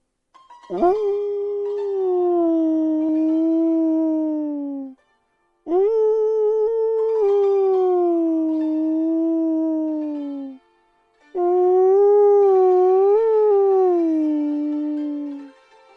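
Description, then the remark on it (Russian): A man throws back his head and howls at the moon like a wolf: three long, loud, drawn-out howls in a row, each rising then sliding down in pitch, with brief pauses between them and no other sounds. “Внезапно он вскочил со стула, запрокинул голову и принялся выть на луну, словно волк.”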